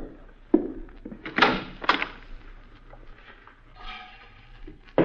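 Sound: closet door being opened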